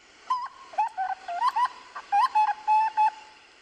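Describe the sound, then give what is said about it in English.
A recording of a grey butcherbird, played on a radio show, sings a series of clear, fluting whistles around a steady mid pitch, with short warbling slides and pauses between phrases, loud and alone with no talking. “Well, look, I'll just pop up a grey butcher bird here.”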